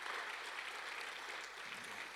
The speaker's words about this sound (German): Und darauf will ich einen Applaus hören, denn das ist unser Ernst. Danke.